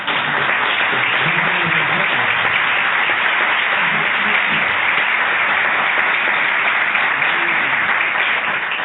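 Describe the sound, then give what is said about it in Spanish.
Steady, sustained applause from an audience, a dense wash of many hands clapping at an even loudness for several seconds without pause. “Y vamos, yo pido un aplauso”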